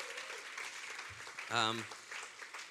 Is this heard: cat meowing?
no